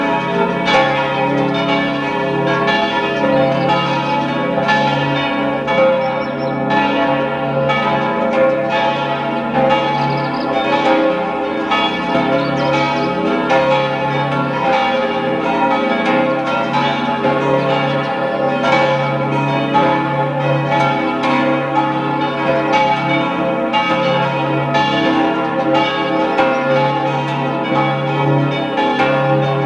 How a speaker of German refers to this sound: Es ist 12 Uhr. Sie hören die Glocken der Pfarrkirche Freistadt in Oberösterreich.